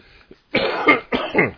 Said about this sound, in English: Coughing, wheezing.